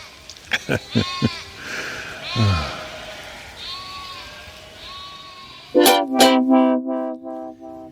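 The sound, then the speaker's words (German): Sheep bleat repeatedly, several overlapping wavering calls from different animals, building to a loud burst of bleating near the end with short quavering cries in quick succession. “Die Schafe sind abgerückt.”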